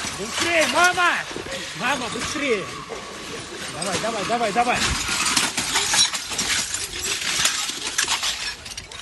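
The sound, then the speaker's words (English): Glass shatters in several sharp, crashing bursts as people break windows to escape a gunfire attack at a concert venue near Moscow, amid loud, frantic shouting and screaming voices. “You see people hiding during the gunshots, and they break windows and they're trying to escape the danger.”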